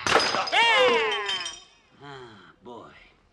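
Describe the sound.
A lamp is smashed over a man's head during a struggle: a loud crash of breaking glass and clinking shards bursts out at once, mixed with a strained cry, followed by two short bursts of voices speaking.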